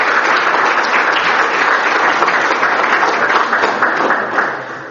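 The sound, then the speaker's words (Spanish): A crowd applauds in thanks after a talk by Monseñor Óscar Múneda, a steady, dense and loud wash of many hands clapping that holds evenly for about five seconds before easing slightly at the end, with no voices heard. “Un aplauso y agradecimiento.”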